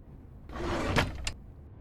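A bottom drawer slides open with a smooth, rumbling scrape lasting under a second, ending in a couple of light knocks as it stops, as someone looks in it for batteries. Moderately loud, with no one talking.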